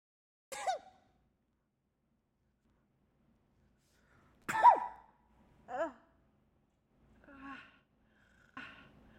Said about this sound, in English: sneezes a couple of times and grabs a Kleenex from her purse.